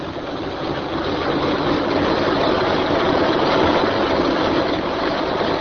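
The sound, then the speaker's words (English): A car engine roars flat out as the car travels fast at night along the road to Eastwood, a loud, steady, dense rumbling drone that holds constant for several seconds with no voices. “A car traveling fast along the road to Eastwood.”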